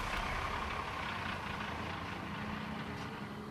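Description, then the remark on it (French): The engine of bus 117 rumbles steadily as it starts at a bus stop and pulls away, a broad droning roar with a low throbbing hum, with no voices. “Elle me fait un dernier signe de tête. Et le bus démarre.”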